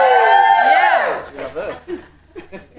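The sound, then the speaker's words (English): A crowd lets out a loud cheer in appreciation of a pastor, led by a high whooping voice that slides downward for about a second, then trails off into scattered chuckles and murmuring chatter. “Yeah, you can give a cheer.”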